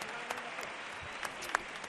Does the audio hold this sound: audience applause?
yes